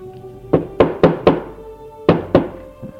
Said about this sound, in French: L'on frappe à la porte.